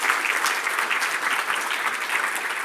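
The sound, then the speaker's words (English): A crowd applauds the speaker's team, a dense, even wash of many hands clapping at a fairly loud level, sustained throughout with no voices rising above it. “By the way, give my team a big hand clap.”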